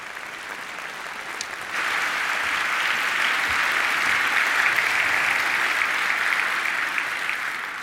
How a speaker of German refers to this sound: Der netzpolitische Jahresrückblick. Einen riesen Applaus bitte.